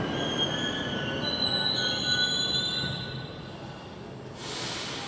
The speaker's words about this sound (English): This is our train.